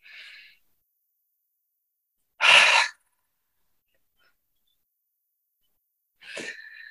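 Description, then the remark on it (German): A breathy inhale through the nose during a breathing exercise demonstration, followed by a louder, open-mouthed 'haah' exhale, like fogging a mirror, with quiet pauses between short breath bursts and no talking. “Stellt euch vor, ihr haucht einen Spiegel an beim Ausatmen.”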